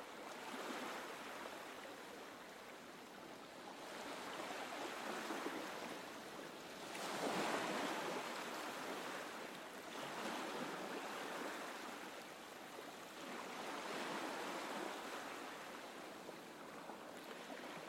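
Soft waves lap gently onto a beach in slow, rolling swells, each wash rising and fading every few seconds in a steady, hissing rhythm with no voices.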